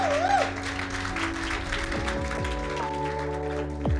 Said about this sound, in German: Kommt, wir geben mal Jesus einen riesen Applaus für das, was er in unserem Leben tut.